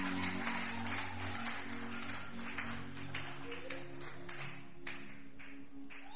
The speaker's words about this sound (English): Let me hear your loudest amen. Clap your two hands together for the Lord.